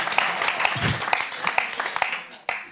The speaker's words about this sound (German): Wer klatscht da?